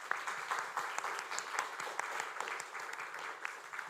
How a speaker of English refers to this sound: And before I'm not anymore in between you and your lunch, I would like first to invite you to give a big applause to our three presenters.